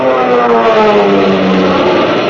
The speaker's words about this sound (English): You can see, too, those kids of the RAF and their planes. Your planes, zooming up to fight for those ships.